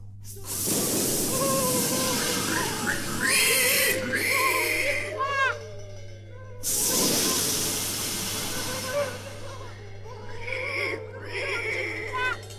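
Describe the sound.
A voice imitates hard blowing at a house: loud bursts of breathy, hissing air, two long forceful blows with shorter puffs between them, mixed with strained vocal sounds.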